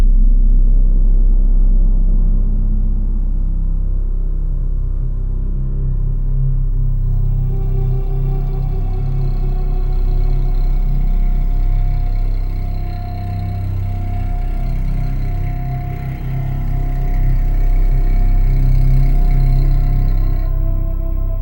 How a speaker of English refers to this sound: A contrabassoon or a contrabass clarinet emits an ultra-low growl when Caesar confronts an abusive caretaker.